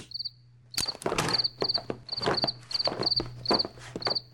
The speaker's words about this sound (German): du hast doch vorhin gesagt, eine Grille im Zimmer bedeutet Glück, hm? Na, leider nicht für die Grille selbst. Die hat gerade eine der Spinnen davon im Netz erwischt.